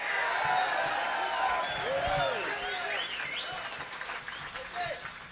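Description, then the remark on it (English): Steady audience applause at the Chestnut Cabaret for the individual members of the Blues Breakers Festival fills the whole stretch, a dense wash of clapping with whoops and cheers rising and falling above it, gradually thinning toward the end. “So we'd like to give a round of applause for the individual members of the Blues Breakers Festival.”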